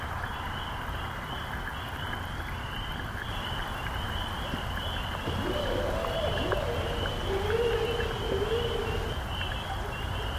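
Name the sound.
whale vocalizing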